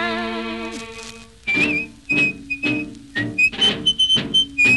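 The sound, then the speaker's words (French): A high, thin whistled melody comes in short repeated phrases over punchy rhythmic accompaniment, after an opening sustained, wavering tone; fairly loud, with no talking. “Le soir à l'heure de l'apéro, il s'amenait dans notre bistrot, toujours tout seul, sans un copain, en sifflotant un drôle de refrain.”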